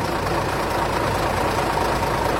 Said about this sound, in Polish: No i teraz powiedz mi, czy rozpoznajesz ten dźwięk? Bo to dźwięk, który mnie kojarzy się z dzieciństwem, dźwięk starego autobusu, tak zwanego Ogórka,